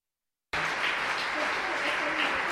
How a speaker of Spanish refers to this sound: Creo que tenemos que agradecerles cálidamente a todos estos representantes que se están yendo, a todos los que están dentro del Consejo y de la GNSO como un todo. Espero que todos les demos un gran aplauso y les agradezcamos.